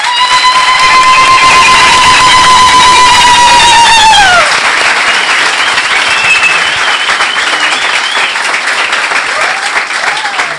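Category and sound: crowd, audience applause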